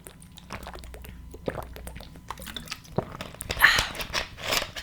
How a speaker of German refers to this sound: Erstmal trinke ich einen Schluck Wasser. Moment, bisschen weit weg. So, Wasser trinken kommt wieder mal viel zu kurz.